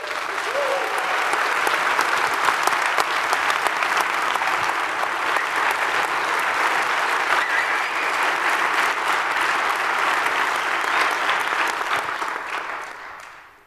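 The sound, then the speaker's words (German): Sustained applause from a large conference audience, a dense steady clatter of many hands clapping for over ten seconds before tapering off at the end, given for the conference's video streaming team. “Wir wollen diese Konferenz, es gibt ja die ganze Zeit schon Videostreaming von den VOG-Leuten, auch dafür nochmal einen Applaus.”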